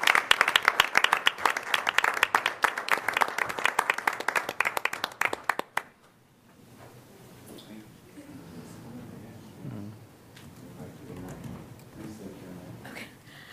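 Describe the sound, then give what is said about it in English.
An audience bursts into loud, dense applause, many hands clapping rapidly for about six seconds before it cuts off abruptly, giving way to a quieter voice speaking; applause for people accepting a proclamation. “And we have quite a few people accepting this proclamation today, so we'll give them all a big round of applause and have you all stand, and you can come on up and give some remarks.”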